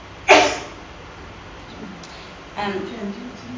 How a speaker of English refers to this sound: It's more just that I need to cough. I'm just trying not to.